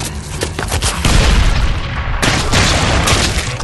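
A grenade explosion: a loud, deep boom swells into roaring, crackling noise, then a second harsh burst follows partway through, rumbling on to the end with no voices.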